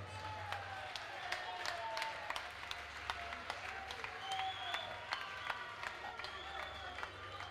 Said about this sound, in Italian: Un applauso alla console.